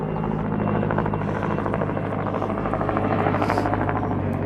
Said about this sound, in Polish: Kontrola? No zdarza się, że helikopter leci.